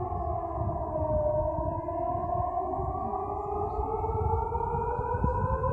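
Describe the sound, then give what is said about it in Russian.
A loud air raid siren wails steadily in Belgorod, its tone slowly rising in pitch over a rumbling low background. No one speaks; the siren dominates throughout. “Вот говорит о том, что меня удивило, это сирена, потому что я ее впервые в Белгороде услышал.”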